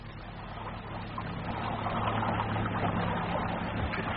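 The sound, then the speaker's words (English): A boat engine runs with a steady, low droning hum, swelling slightly louder after the first second and holding constant throughout, with no voices. “I'll take the boat round as soon as it gets dark.”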